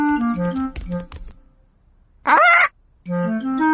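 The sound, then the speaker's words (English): Polly, the pet parrot of Granny Pig and Grandpa Pig, gives one loud, harsh squawk lasting about half a second, set between two short stretches of bouncy, cheerful music. No one speaks. “Granny Pig and Grandpa Pig have a pet parrot.”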